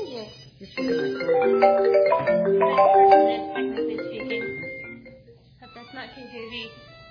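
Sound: cell phone ringtone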